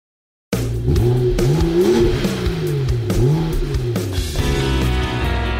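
A race car engine revs loudly, its pitch sweeping up and down in repeated surges, with a brief squeal of tires. No one speaks.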